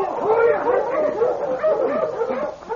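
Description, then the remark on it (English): A pack of husky dogs barking and yelping over one another, their wavering, whining cries rising and falling in pitch without pause for about three seconds, fairly loud throughout. “Oh, you husky! Out your dogs, Peters!”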